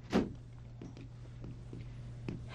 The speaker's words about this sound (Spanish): Por fin lo hace entrar en la salita cuajada de costosas antigüedades. Y cerrando la puerta...